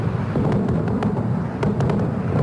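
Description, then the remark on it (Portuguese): Explosions and bursts of gunfire from anti-aircraft batteries during an attack on Baghdad crackle irregularly over a constant low rumble, with several sharp, scattered bangs and no voices. “E a gente consegue já ouvir o barulho das explosões e das baterias antiaéreas.”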